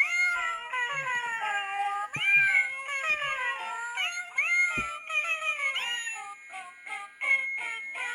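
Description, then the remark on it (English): A musical greeting card with three hat-wearing cats on the front and the words "Meowie Crema" plays a tinny, continuous tune sung in cat meows, with rising and falling meowing notes over a steady electronic melody, fairly loud, no talking. “And I used to like that Peter G., and now he's got, it's not just kitty cats, y'all, they're singing kitty cats.”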